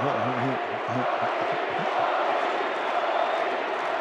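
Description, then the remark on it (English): A large arena crowd at a Utah Jazz basketball game, after a 127-120 win over Denver, chants the nickname "Bogey" for player Bojan Bogdanovic in unison, a loud, rhythmic two-syllable call repeated over a dense roar of cheering voices that fills the space throughout. “Crowd still chanting”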